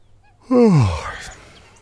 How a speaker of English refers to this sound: Yawning is to open the mouth wide and take a lot of air into the lungs and slowly send it out. We usually do this when we are tired or bored.